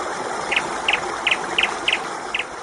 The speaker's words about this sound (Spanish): Uy, qué contento está nuestro pajarito, con que hace todavía algo de fresquito, ¿eh?